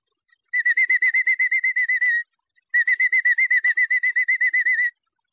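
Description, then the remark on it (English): A whistled imitation of a robin's daytime chirping, on an Edison Records recording: two bursts of rapid, evenly repeated bright chirps, each lasting under two seconds, separated by a short pause, clear with no talking. “The robin chirps through the day this way.”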